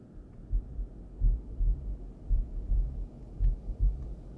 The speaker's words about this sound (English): Can you feel your heart pounding in your chest?